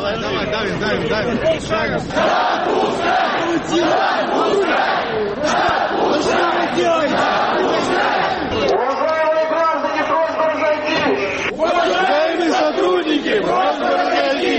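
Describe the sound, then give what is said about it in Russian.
A large crowd of young people, about a hundred voices, shouts slogans in unison such as "Cops, shame of Russia!" on Bolshaya Dmitrovka street. It is loud and continuous, their overlapping voices rising into rhythmic chanted phrases with scattered yells throughout. “Молодежь в сотне глоток орет «Мусора, позор России!»”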